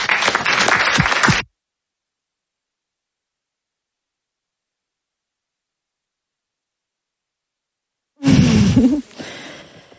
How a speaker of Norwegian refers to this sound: Da klapper vi hun inn på scenen.